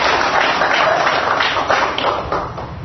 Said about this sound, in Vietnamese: Chúng ta cho một tràng pháo tay để gặp gỡ người dân.